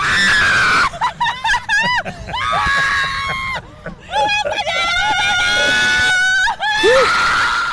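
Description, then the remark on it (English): A woman screams loudly, again and again in long, wavering, high-pitched shrieks with brief breaks for breath, while riding the Zipper, a spinning fairground ride, with faint crowd noise in the background. “I've never heard her scream like that.”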